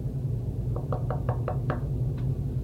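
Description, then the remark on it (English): A soft, quick series of about six light knocks on a door, evenly spaced, followed by one fainter tap, over a low steady hum with no voices. “And so you go and you knock on the door very gently.”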